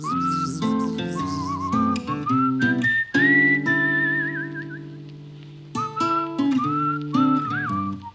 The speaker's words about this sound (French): Alors, là, petite introduction en sifflant. Puis là, ça commence.